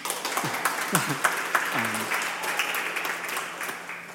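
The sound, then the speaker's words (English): A church audience breaks into steady applause, many hands clapping in a dense, crackling wash that holds at moderate loudness, with a few voices murmuring and calling out underneath. “It's okay if you want to clap.”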